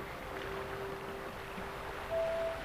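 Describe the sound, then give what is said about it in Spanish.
A steady, gentle rush of flowing stream water, continuous and fairly soft, with a faint sustained hum-like tone running beneath it and no talking. “Comenzaremos a movernos como flotando por el paisaje, sintiendo la alegría de la naturaleza, la fuerza, el sonido del agua en el arroyo nos relaja aún más profundamente.”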